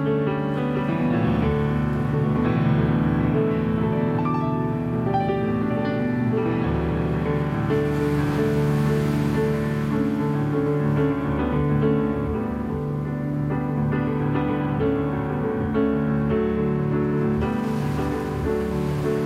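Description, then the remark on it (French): Ocean waves break and wash onto the shore in a steady, continuous surge, sitting softly behind sustained piano music that carries the melody throughout. “Au piano, avec le ressac des vagues derrière.”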